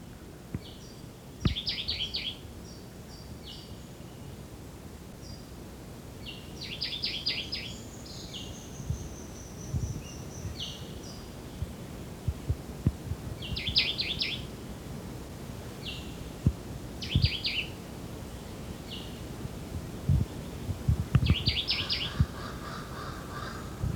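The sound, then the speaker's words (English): A Jamaican white-eyed vireo, also called woodbelly, sings short, bright phrases repeated every few seconds, one ending in a lower buzz, over a steady outdoor background with faint calls from other birds, including a jabbering crow. “Yeah, this is the Jamaican white-eyed or woodbelly.”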